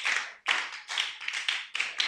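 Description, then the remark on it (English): An audience claps together during a sermon in a steady rhythm, dense bursts of many hands landing roughly twice a second, loud with no voices over it. “Man, if you don't clap, I'm preaching.”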